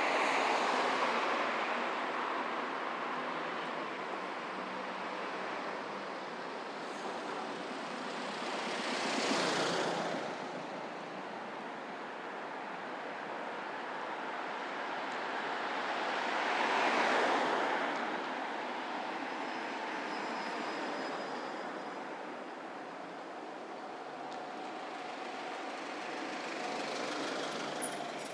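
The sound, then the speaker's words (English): Steady traffic noise with several vehicles passing at intervals, each with a different engine sound swelling louder then fading away, and a faint high-pitched squeal of squeaky brakes briefly audible in between, while others slow down smoothly. No one speaks. “Interesting, all the different vehicle sounds, different engine sounds, some having squeaky brakes.”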